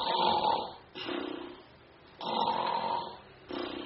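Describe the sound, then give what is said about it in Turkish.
A voice imitates snoring, with two slow cycles of rasping inhale and exhale, loud, with no speech. “O anda horlarken rüya görüyor.”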